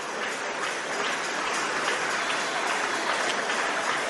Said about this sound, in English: And those of you who are clapping, keep clapping. They are coming, keep clapping.